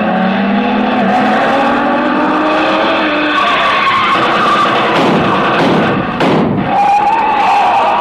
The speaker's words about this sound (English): Speeding toward the same destination as another car.